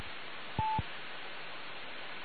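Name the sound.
telephone dialing tones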